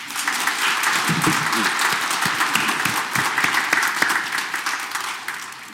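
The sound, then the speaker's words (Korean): A parish audience bursts into steady, sustained applause for the parish's 50th anniversary on the First Sunday of Advent, a dense wash of many hands clapping at once that holds for several seconds before easing slightly at the end. “박수 한번 쳐볼까요?”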